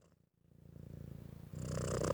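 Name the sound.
cat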